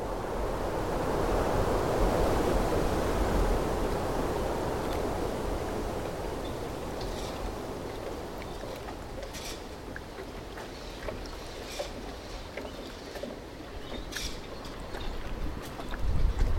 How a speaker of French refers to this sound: On est sur cette digue, cette vieille digue, dit le vieux port, où on entend justement la régularité de la houle, un peu comme un métronome qui vient petit à petit sur la mangrove, là s'étouffer dessus.